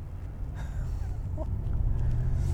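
A large BMW 745 Li sedan drives past on wet roads, its low engine rumble and road noise steadily swelling louder over a couple of seconds, with no one talking.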